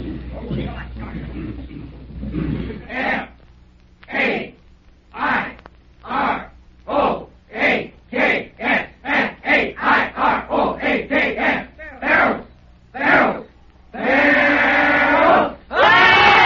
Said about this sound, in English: I'm going to ask … to lead us in a Fair Oaks yell